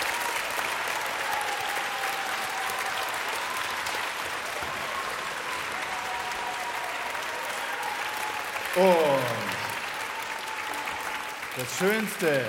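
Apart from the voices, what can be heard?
audience applause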